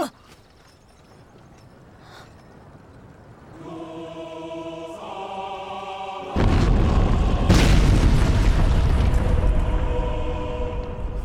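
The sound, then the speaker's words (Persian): A massive, deep explosion booms in suddenly and keeps rumbling with a roaring wash of debris, a second blast swelling moments later, following a stretch of quiet, sustained tonal droning. “چه خبر شده؟ انفجار بود یا چی؟”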